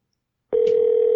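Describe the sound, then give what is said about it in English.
After about half a second of silence, a steady, loud telephone line tone begins abruptly as a call is placed to a guest, holding unbroken to the end, with no voices. “We're going to give her a call.”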